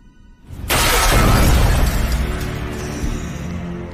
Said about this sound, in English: Catwoman enters Ivy's greenhouse. It's dark, and as she touches a vine, it crumbles to dust. Suddenly, Bane bursts through the glass ceiling.